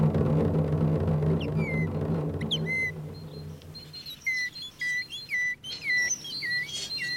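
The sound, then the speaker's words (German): Someone whistles an imitation of a tit's call: short, high, bird-like notes, sparse at first, then a quick run of repeated two-tone chirps, clear with no talking. “Der Baum hat eine Meise.”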